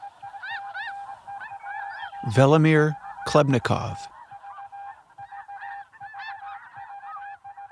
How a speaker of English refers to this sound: Libby had come to this spot to listen to the flight calls of migrating birds, and he wasn't disappointed.